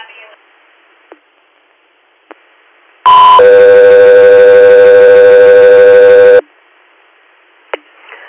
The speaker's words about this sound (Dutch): Echo 3 Air, stand by for tone.